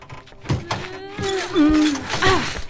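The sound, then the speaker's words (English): A few dull thumps and knocks as something bulky, wedged in a doorway, scrapes and bumps through as people push and pull it, straining and groaning over the effort. “Oh, we got wedged in the door.”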